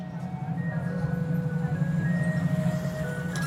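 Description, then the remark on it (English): An unpainted metal ice cream truck drives alongside people walking on narrow concrete streets of a town in Cuba on an early morning, its steady low engine rumble carrying a thin, faint jingle of sustained melody tones over the top for several seconds. “Out of nowhere, an unpainted metal ice cream truck appears, drives alongside them.”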